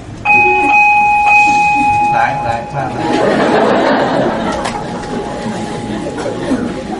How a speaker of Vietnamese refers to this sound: Chuông này là chuông của đình, không phải chuông chùa.